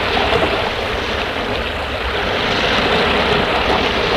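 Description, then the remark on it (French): Ocean waves break in a steady roar of surf, a dense wash of rushing water that never lets up. No one speaks. “Nous entendions le bruit des vagues, musique lancinante et en même temps pleine de fougue.”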